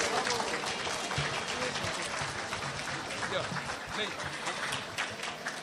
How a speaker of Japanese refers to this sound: 皆様どうぞ大きな拍手をお送りください。